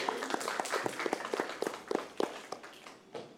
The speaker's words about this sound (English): Round of applause for our helpers.